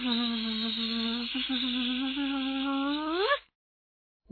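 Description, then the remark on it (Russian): A loud insect buzz drones steadily for about three seconds, its pitch swooping upward just before it cuts off abruptly, leaving silence. “Может быть, мы с жужжалкой с этим справимся, а? Как, жужжалочка?”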